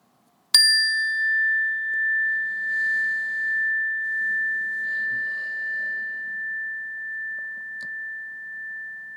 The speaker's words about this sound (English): And when you hear the sound of the bell, we'll start out like we usually do when we meditate.